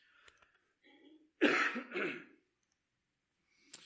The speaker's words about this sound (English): Excuse me just a minute, I feel a cough coming on.